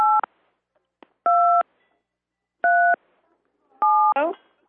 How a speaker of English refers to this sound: On the phone. There's somebody hitting buttons on the phone.